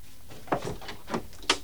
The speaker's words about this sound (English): Richard looks up at the door, then gets to his feet and answers it.